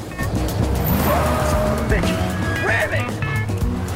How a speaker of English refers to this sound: The security truck rams the gate.